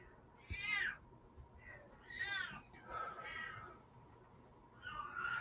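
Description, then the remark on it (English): A female cat throwing a fit meows insistently, about four drawn-out, whiny calls in quick succession, loud, over a low steady background rumble. “The mouthiest kitty.”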